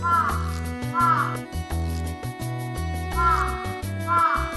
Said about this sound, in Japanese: 街を歩いていたらカラスがカーカーと鳴いていた。